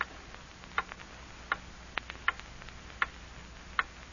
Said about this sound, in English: Hear that clock?